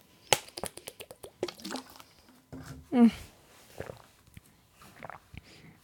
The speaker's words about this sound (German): ich muss einen Schluck trinken, bevor wir anfangen. So ist doch schon viel schöner.